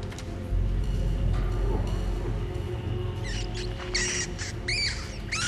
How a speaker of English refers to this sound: A rat runs across the floor.